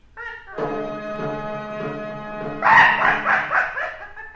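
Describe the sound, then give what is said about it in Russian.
A dog barks during a hunt, starting with drawn-out, tonal yelps and then breaking into a louder, quicker run of barks toward the end. No one speaks. “Тише! Тише ты! Зурикела! Этот пес мешает мне охотиться! Замолчи!”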